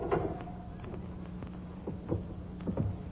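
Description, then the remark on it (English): A heavy stone mausoleum door in a cemetery grinds and creaks open over a low steady hum, with a few scraping knocks and thuds near the end, moderately loud. “Now, this mausoleum door... it isn't. Isn't it?”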